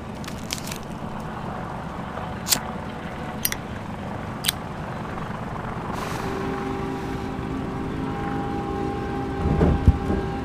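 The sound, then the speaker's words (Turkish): About ten helicopters circle overhead in a continuous low, rumbling roar that holds steady throughout, with a few sharp clicks early on and a swell of noise near the end. “Tepemizde zaten 10 tane helikopter dönüyor.”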